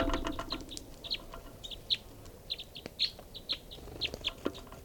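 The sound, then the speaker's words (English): Repeated short, high-pitched bird calls chirp in quick bursts, some sharper and louder than others, from birds at their cages, one bird perched on the cages, over a steady low background rumble with no talking. “One of the birds is perched on the bird's cages now.”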